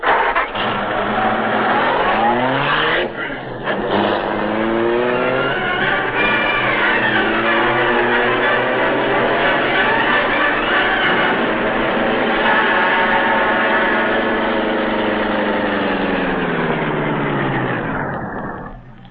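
A car in a driveway revs up and accelerates through several gear-like pitch climbs, then settles into a steady, loud drone as the vehicle drives away, its tone sinking near the end.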